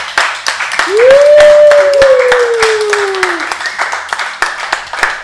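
An audience claps and applauds steadily for several seconds, a dense patter of many hands, with a sustained tonal sweep briefly rising and gliding downward over the clapping.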